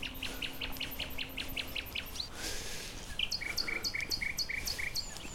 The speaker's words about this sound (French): Le rossignol et l'alouette des champs s'éclatent.